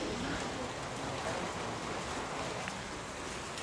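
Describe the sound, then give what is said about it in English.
Steady rainfall hisses across the whole clip, a dense, even wash of drops pattering on surfaces, with no clear voices standing out. “It's started to rain now, which means it will be another challenging day of rescues for emergency teams.”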